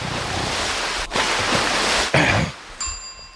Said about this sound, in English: Oh, you son of a bitch. I gotta splash this guy with water.